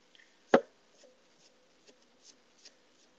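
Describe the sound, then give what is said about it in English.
A knife chops food on a board: one sharp, loud thud followed by several lighter, irregular taps spaced about half a second apart. “Can you hear the chopping sounds?”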